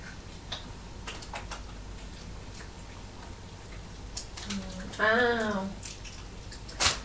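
Running water hisses steadily throughout, with scattered light ticks and clicks, and a brief high-pitched vocal sound rises over it near the end.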